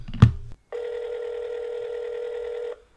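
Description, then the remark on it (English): An outgoing phone call's ringing tone: a single steady electronic ring lasting about two seconds, heard clearly on its own after a brief click at the start. “Should we call Casey and ask him?”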